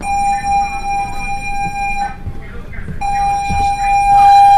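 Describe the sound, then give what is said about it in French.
An alarm aboard the French warship Aquitaine blares a steady, piercing electronic tone during a training drill as personnel evacuate the zone; it drops out for about a second, then resumes, over muffled voices and background bustle. “De fait sécurité, alarme Volvo en Charlie 30-20. Le personnel évacue de la zone.”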